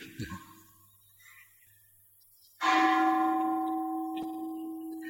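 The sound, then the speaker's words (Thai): A single bell, rung to signal ten minutes remaining, strikes midway with a loud, clear clang, then its rich tone hums on steadily to the end. Before it, only faint low murmuring and background noise. “หูได้ยินเสียงแล้วใจเราเป็นไงใครมีจิตเป็นกุศลบ้างได้ยินเสียงระฆัง”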